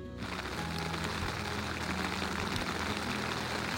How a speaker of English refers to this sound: As you can hear, maybe. Some rain is coming down again. But you know what? When you're inside your tent, it doesn't matter. It's nice to hear the pitter-patter.